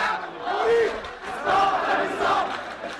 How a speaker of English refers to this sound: "We don't love you. We don't love you," the protesters shout. "Leave us alone, you and your party."